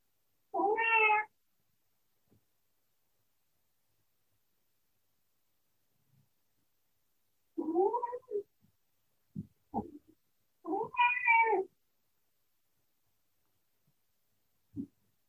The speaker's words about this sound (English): Annie the cat. She's contributing some sound healing into the mix here.